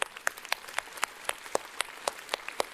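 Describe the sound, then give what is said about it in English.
A church audience applauds and cheers with a steady patter of fairly quiet, sharp claps, a few louder ones standing out at a quick, even rhythm, with no clear voices. “Let's cheer for that.”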